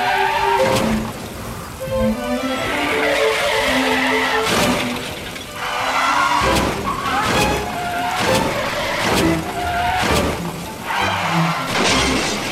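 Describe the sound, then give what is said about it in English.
Tires screech in wavering squeals as cars skid, presented as Central New York drivers in winter weather, followed by a rapid series of loud crashes and shattering impacts, roughly half a dozen smashes piling up, with no talking. “Car wreck?”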